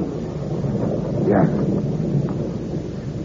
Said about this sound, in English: In this rain? Yes. Monsieur, it started to rain.